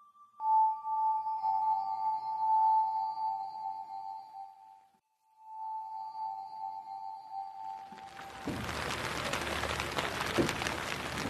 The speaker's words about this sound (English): You know, it's a lot better to be inside on a rainy, cool day like this.